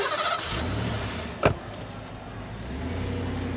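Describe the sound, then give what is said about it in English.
A car engine rumbles steadily, a sharp clunk cuts in midway, then the engine note swells slightly as the vehicle pulls away. No one speaks. “this is my car. You can't ride in my car. You have to walk home.”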